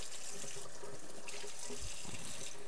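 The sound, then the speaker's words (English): A tap runs cold water steadily into a sink while hands are being washed, a continuous hissing splash of water that stays even throughout, moderately loud, with no one speaking. “Water's cold water.”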